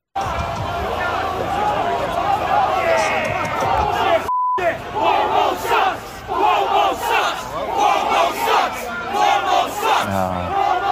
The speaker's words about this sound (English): But the crowd around the building had a very appropriate chant to give to the state of New York. Listen.